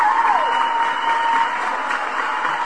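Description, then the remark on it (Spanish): A steady burst of applause from many hands for a listener who paid off their debts, a dense, even clatter that holds at the same level for about three seconds with no voices over it. “De verdad, mil felicitaciones y, por supuesto, un aplauso para ti.”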